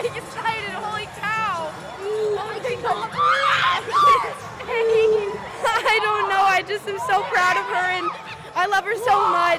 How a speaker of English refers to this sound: The shouting soon turned to crying and hugging.